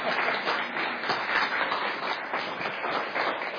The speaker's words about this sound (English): I think they're clapping because I quit the meet.